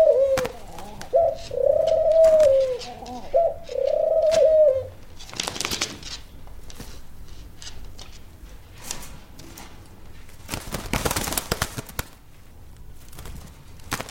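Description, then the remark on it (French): A female pigeon coos in a series of low, rolling, throaty calls for about five seconds, followed by rustling, scraping and a few sharp clatters with no voices. “Là, il n'y en a qu'une qui recoule, c'est laquelle c'est la femelle.”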